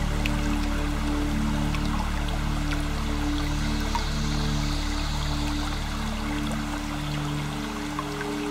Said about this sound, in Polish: W miejscu, które wybierzesz, niech ten mały strumień spływa z jednego progu skalnego na drugi. I kiedy tak spada z górnego stopnia, rozpyla się w gęstą mgłę.